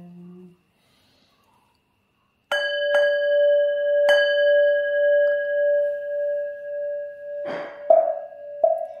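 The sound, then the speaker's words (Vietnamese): A ritual bell, rung to call the souls of the dead, is struck, ringing out with a long, shimmering, pulsing tone. Further strikes follow, clustering toward the end. Fairly loud, with no voices. “Chuông giống giả gọi hồn mau tinh,”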